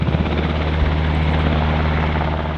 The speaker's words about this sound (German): Gerade startet ein Black Hawk-Hubschrauber der US-Armee auf dem lettischen Flugplatz Livade.